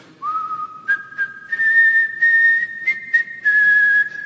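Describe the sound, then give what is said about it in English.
A prisoner in a cell whistles clearly, holding long sustained notes that climb in a few small steps, like the start of a slow tune, with no talking. “One morning, as he tried to lift himself up on the bars to look out the window, something sprang into his heart and he whistled forward.”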